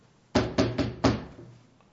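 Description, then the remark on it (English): Four firm knocks on a door in quick succession, solid, each a sharp thud with a brief resonant tail, followed by quiet. “But you know how I knocked on doors going forward?”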